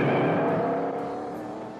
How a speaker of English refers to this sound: The car skids and bounces into a pool of quicksand. Well, now that's funny. The car zooms out and runs over Dracula. It jerks forward and backward. The mud flies off. Shaggy floors it.